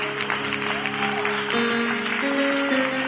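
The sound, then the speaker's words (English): A church audience claps in steady, sustained applause of praise for a 102-year-old deacon's birthday while an organ holds sustained chords underneath, lasting a few seconds. “God, a hand clap of praise for him.”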